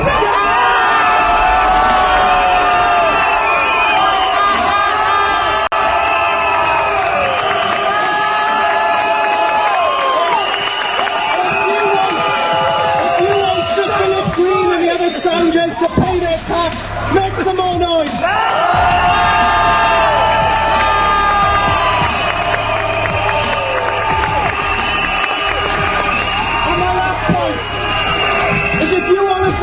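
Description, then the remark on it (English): A large protest crowd at a strike rally against cuts cheers and shouts continuously, a dense wall of overlapping yells and whoops that swells loudly and stays at full volume throughout, with a brief dip midway before rising again. “So just in case, if you want to take action together, make some noise.”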